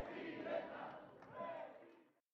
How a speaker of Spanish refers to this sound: Al centro del escenario se encontraba Xóchitl con una sonrisa, mientras los hombres y mujeres que la rodeaban gritaban a coro. Esa sería la última vez en la noche en la que se escucharía ese coro en esa casa de campaña.